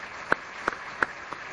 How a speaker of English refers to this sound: So thank you all. Let's have a round of applause for our four presentations.